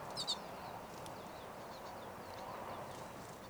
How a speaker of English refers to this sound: Most, if not all, of the recorded calls are 5:35, but there is a wild bird very close.